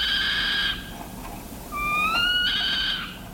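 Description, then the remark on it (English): Two drawn-out, high-pitched meowing calls from a saw-whet owl, given when agitated or threatened, the first steady and the second sliding slightly upward, each with a thin, nasal, harmonic tone against a quiet background. “When agitated or threatened, the saw-whet gives what ornithologists describe as a decidedly uncanny, high-pitched meow.”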